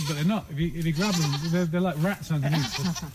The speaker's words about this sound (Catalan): Són les cabres haciendo amigos entre ells. Making friends.